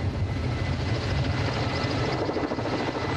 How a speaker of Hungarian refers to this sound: A pilóta munkáját a szélcsend nehezítette. Egy oldalszél elfújta volna a helikopter által keltett légörvényeket, így azonban a 4 tonnás új adót csak harmadszorra sikerült felcsavarozni a torony tetejére.